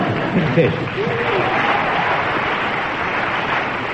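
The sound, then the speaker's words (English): Steady audience applause for a speaker's contribution on a subject, a dense wash of many hands clapping at an even loudness for the whole stretch, with faint voices murmuring underneath. “A well-deserved round of applause for your contribution on that impossible subject.”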